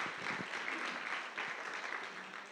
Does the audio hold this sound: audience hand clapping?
yes